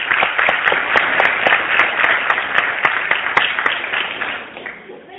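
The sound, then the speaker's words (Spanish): A crowd applauds steadily, dense overlapping claps at a fairly loud level, then tapering off and fading toward the end. “un aplauso fuerte para ella.”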